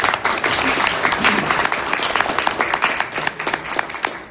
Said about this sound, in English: And I was moving on to a, thank you, a clap.